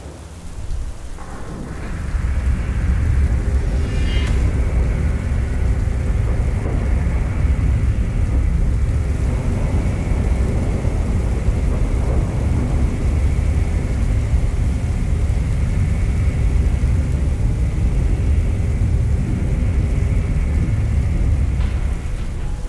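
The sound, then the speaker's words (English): Loud, continuous thunder rolls over steady heavy rain, joined by a deep grinding rumble with a faint metallic whine as a massive metal gate opens, starting after a couple of seconds and persisting to the end. “The sound of it echoed into the distance, a cacophony of metal and sliding flesh fighting the thunder above.”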